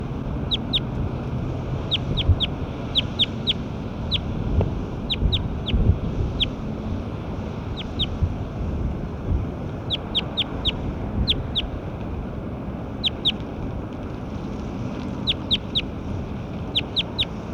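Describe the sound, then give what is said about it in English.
Short, high-pitched bird calls repeat in quick clusters of two to four throughout, each note brief and sharp, over a steady low rumble of background noise. “That's Bird 9, stop.”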